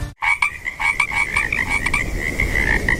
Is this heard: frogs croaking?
yes